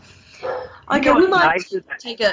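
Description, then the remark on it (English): Two dogs, a Swiss Shepherd and a Spoodle, bark: a drawn-out, wavering yelp followed by a quick run of short, sharp barks, fairly loud, with a faint murmur at the start. “Your dogs are even helping with the ascension, because they're barking in the background, so they're happily helping.”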